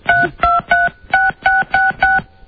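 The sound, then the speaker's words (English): A phone number with three sixes in a row is dialed on a touch-tone keypad to call a comedian back: seven crisp, clear dual-tone beeps in a quick, steady rhythm, loud, with no one talking. “I'll call it back then.”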